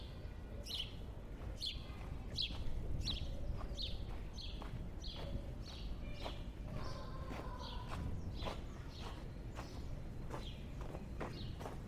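bird calling nearby

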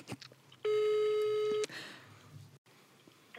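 telephone line tone

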